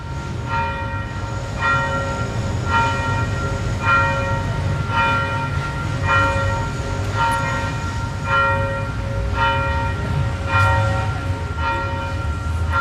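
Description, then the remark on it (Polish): A medium-sized church bell tolls repeatedly at a steady pace, each strike ringing with bright overtones that linger and overlap, over a low background rumble, with no one talking. “Więc zabrał i przysłał ponownie ten egzemplarz średniego dzwonu.”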